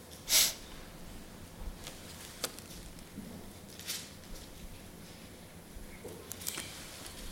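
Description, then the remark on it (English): A single sharp, loud sneeze bursts out at the very start, hissy and brief, followed by several seconds of quiet background with a few faint rustles and clicks. “Bless you.”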